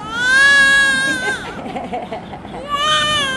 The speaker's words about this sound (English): In this maternity ward, one of two the foundation runs in Karachi, a newborn wails her way into life.